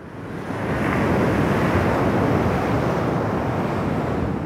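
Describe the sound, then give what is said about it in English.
Ocean waves breaking on a beach on the Outer Banks, a steady loud roar of surf that swells in over the first second and keeps rushing without pause, with some wind noise mixed in. “WUNC's Jay Price reports from the Outer Banks, where rising sea levels mean houses are falling into the ocean”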